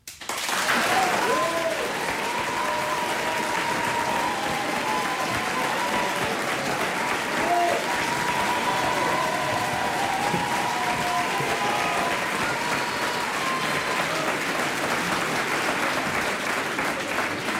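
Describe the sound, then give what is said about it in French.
Sustained audience applause at the Vieux-Colombier hall in 2014, given as an applause-meter vote for Clémenceau, a dense wash of clapping that holds steady and loud for the whole stretch, with faint crowd voices and a few cheers mixed in. “Je mets à l'applaudimètre. Clémenceau pour.”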